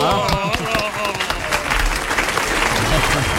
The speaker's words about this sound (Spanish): ¡Aplauso, gordo! ¡Aplauso!